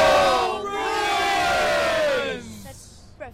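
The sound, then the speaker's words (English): A group of Bruins fans scream together in a scream-off outside the Garden, in one long, loud, sustained roar with wavering high pitches, slowly trailing off after about two and a half seconds into a brief, quieter tail. “But today, she's holding two scream-offs with Bruins diehards outside the Garden.”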